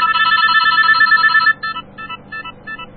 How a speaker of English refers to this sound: That's the ring to my new Nokia phone. I was going to review it, but I thought, eh, they're all the same.